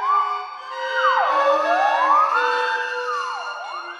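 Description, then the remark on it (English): Smooth, swooping theremin glissandos rise and fall like a wailing siren, gliding up and down several times over steady sustained orchestral tones, loud and continuous with no talking; from the third movement, Flugelhorn, of the orchestral work Sirens, which addresses the alarm meaning of siren. “It's comical, the theremin glissandos all over the place, and in the middle, the orchestra itself becomes a theremin.”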